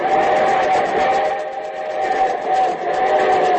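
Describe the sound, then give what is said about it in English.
An approaching train rumbles along with a steady rhythmic chugging while its whistle holds a long, loud, sustained tone over the top, continuous throughout, opening the Railroad Hour radio show. “From Hollywood, here comes the star-studded show train.”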